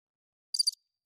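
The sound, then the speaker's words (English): A single short cricket-chirp sound effect, a quick burst of three or four high trilling pulses, in otherwise quiet surroundings, followed moments later by a brief low thump. “Crickets? That's your sound That's effect?”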